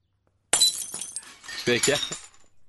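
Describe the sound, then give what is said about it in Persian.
A glass teacup of freshly brewed bagged tea, knocked over by accident, shatters with a sudden bright crash, followed by a scatter of tinkling shards settling, while a person's voice murmurs faintly underneath toward the end. “با اون همه ناز آب جوش اومد، بعد کل این چای کیسه ای توی لیوان رخصید، الانم من بی حواس اینجوری کردم. کاش حداقل دوتاشون با هم میشکستن، این یکی تنها مون.”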